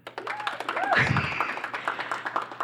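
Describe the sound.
An audience claps steadily for a few seconds to vote for Anka Gams, with dense, overlapping hand claps and a few voices calling out and whooping over the applause.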